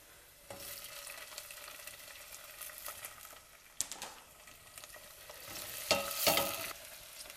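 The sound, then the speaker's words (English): Bell pepper, added to onions, sizzles steadily in a hot pan while being stirred until soft, with scraping stir strokes and a few sharper clatters of the utensil against the pan, and no talking. “And with the bell pepper, make sure that you keep stirring in until it gets really soft.”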